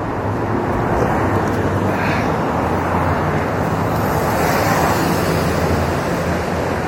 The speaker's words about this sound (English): Cars are so loud. Why are they so loud? It shouldn't be allowed.